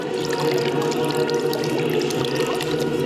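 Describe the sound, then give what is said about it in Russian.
A steady stream of water splashes and pours continuously onto the prayer stone of St. Seraphim of Sarov as Metropolitan Joseph repeatedly douses it after a moleben, with bright droplet spatters throughout and no voices. “Следуя старой традиции, сложившейся еще в дореволюционное время, митрополит Иосиф, совершив молебен преподобному Серафиму при пении правильца великого саровского старца, многократно облил водой, освященный молитвенным подвигом камень преподобного.”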